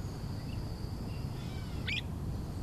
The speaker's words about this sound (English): Woodland Cemetery is also an arboretum, with over 3,000 trees. And hanging out in those majestic oaks, magnolias, and shagbark hickories are birds. Lots and lots of birds.